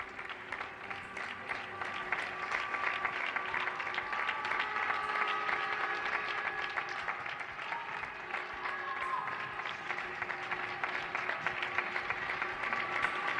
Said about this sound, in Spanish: Aplausos emocionados al personal sanitario y a aquellos que están trabajando en estos momentos para los demás desde el barrio de Usera